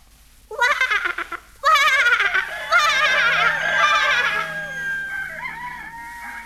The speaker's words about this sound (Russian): И по всей деревне в ответ на это неистовое кваканье лягушки всполошились и заорали петухи.